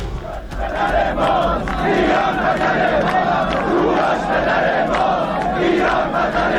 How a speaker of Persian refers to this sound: یکی از بزرگترین شاهدان این مدعا تجمع هزاران نفر از ایرانیان بر سر آرامگاه کوروش بزرگ در روز 7 آبان ماه بود، روزی که به طور غیر رسمی روز کوروش نامگذاری شده.